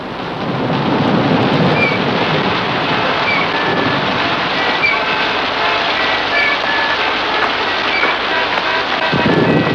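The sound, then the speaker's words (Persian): Steady heavy rain and blustery wind fill the scene, with a deep rumble of thunder rolling underneath throughout; loud, no voices. “داستان از اینجا شروع میشه که من دیر وقت یک شنبه طوفانی در سال 1841 وارد شهر نیو بدفورد شدم.”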